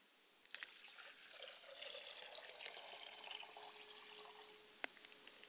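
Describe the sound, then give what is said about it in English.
Liquid is poured out as a libation toward the south in a thin, steady trickle for several seconds, quiet, with a brief clink near the end and no voices. “I pour libations to the south, and I look back down to the south, and I say, libation.”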